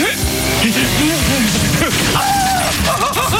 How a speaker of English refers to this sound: April 18th is International Jugglers Day. And to celebrate, I'm going to attempt to juggle these three chainsaws without any formal training whatsoever. Here goes.